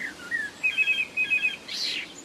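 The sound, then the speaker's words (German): A blackbird sings in a quick run of bright, repeated whistled notes, ending in a brief rougher, buzzy phrase. No one talks. “Oder Amseln und Singdrosseln machen Handys nach, sodass man also plötzlich im Garten sein Handy hört und rausrennt und dann war es doch nur die Amsel.”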